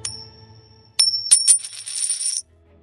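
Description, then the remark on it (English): A coin tossed to decide a matter lands with a bright metallic clink, bounces twice, then spins and rattles with a ringing tone before settling, with no talking. “They tossed a coin to decide the matter.”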